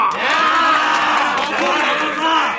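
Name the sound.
crowd cheering and applause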